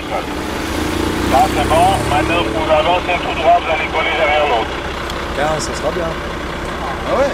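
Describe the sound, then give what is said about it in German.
A deep, steady engine rumble of a heavy-load transport truck convoy rolling slowly through the town of Neuchâtel (Neuenburg), about an hour before midnight, with indistinct voices and clanking noises mixed into the continuous drone. “Aber noch wartet die Durchfahrt durch Neuenburg auf die Chauffeure, quer durch die Stadt, weil die Autobahn ist viel zu eng.”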